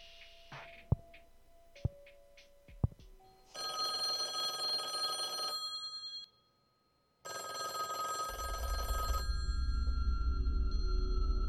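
A few sharp clicks and short beeps, then a telephone bell rings loudly in two long bursts separated by a brief silence, the second accompanied by a low rumble.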